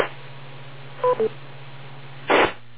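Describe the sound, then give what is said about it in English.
Two short electronic beeps, quick dual-tone blips in succession, over a steady low hum and faint hiss, followed a second later by a brief rush of static noise, heard during the TechNet net. No one speaks. “Wait for the breath through the beep.”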